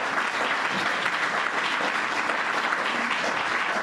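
Sustained audience applause fills the whole stretch, a dense, steady patter of many hands clapping at once, loud and without any pause or talk breaking through.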